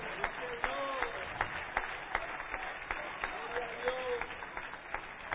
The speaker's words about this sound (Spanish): Y a Él le damos la gloria. Yo creo que le debemos dar un aplauso a ese Cristo maravilloso.